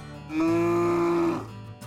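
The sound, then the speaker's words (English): A single loud moo from Holly Cow, a cow in Freshwater, holding one steady, droning pitch for about a second before trailing off, with no other sounds around it. “Holly Cow would tell anyone that would listen that she was going to be an astronaut”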